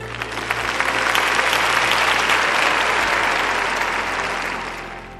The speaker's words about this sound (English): Well, can we just give that a round of applause?